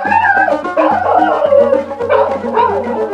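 Two black greyhound dogs yelp and whimper in a steady string of high, whining cries and short barks, loud and continuous over about three seconds, with no one talking.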